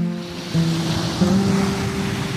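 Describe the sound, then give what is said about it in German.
Ocean waves wash steadily onto a beach, a broad continuous roar of surf with swells rising and falling, moderately loud, with no voices. “Ach, mega schön, Wellen zu hören, oder?”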